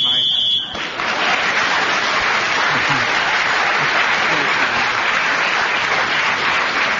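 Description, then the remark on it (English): A brief shrill, steady whistle blast ends a speaker's turn on the subject of friendship in a panel game as Clement Freud is speaking, sounding for under a second; then a crowd breaks into loud, sustained applause that carries on to the end. “Well, as Clement Freud was speaking the whistle when he gains yet another point, and he's now in third place.”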